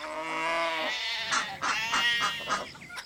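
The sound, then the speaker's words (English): Goats bleat in a quick series of wavering, nasal cries, one long call followed by several shorter overlapping bleats, fairly loud with no talking. “Look at the goats and ducks and chickens.”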